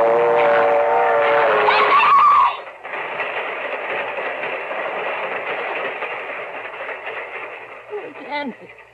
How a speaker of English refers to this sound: Hey, my foot! My foot! It's caught in the train! Hey, it's not coming down your track. It's coming down this one!